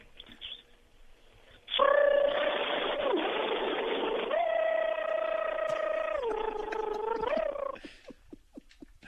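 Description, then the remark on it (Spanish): A voice imitates a blender with a loud, steady buzzing drone lasting about six seconds. Its pitch jumps up partway through, then drops lower before cutting off abruptly. “muéstranos tu licuadora.”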